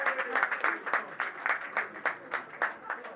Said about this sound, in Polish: Prosimy, prosimy bardzo. Brawa dla kandydatek.